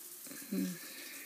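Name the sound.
shower water running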